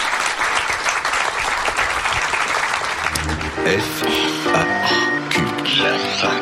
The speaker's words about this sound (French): En tout cas, on peut applaudir.